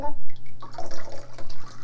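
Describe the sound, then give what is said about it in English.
Water is poured from a pitcher into a white cup in a bathtub, splashing and trickling, a short burst of pouring and sloshing with faint echoing drips, with a soft background hum and a hint of a voice. “Pour this water into the white cup.”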